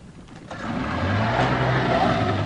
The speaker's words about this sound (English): Fulbright kicks the boat into gear and heads for the wave. As the boat picks up speed, it slams against the water over and over.